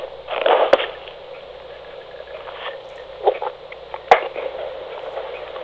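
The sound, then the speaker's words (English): Ice cubes clink against a water glass: two sharp, bright knocks several seconds apart, with a few softer rattles in between, over a steady low hum and no talking. “I probably should have left the ice cubes out, though. They make a noise.”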